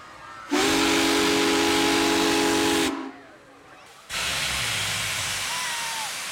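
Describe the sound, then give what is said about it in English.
The whistle of steam locomotive 4014 roars loudly for about two and a half seconds, a deep, harmonic blast over heavy hiss, then after a short pause a rush of steam hisses on, at the historic Morgan Station in Morgan. “4014 didn't so much whistle as it roared.”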